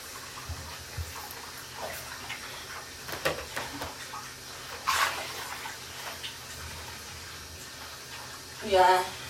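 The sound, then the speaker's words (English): Hot water runs steadily into a bath, a continuous rushing hiss with a few louder splashy surges partway through and near the end. “Just had a bit more hot water because it's not hot enough.”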